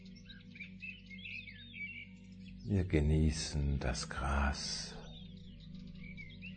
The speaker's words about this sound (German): die Vögel um uns herum.